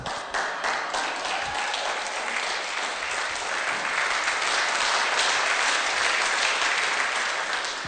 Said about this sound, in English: You can do a golf clap.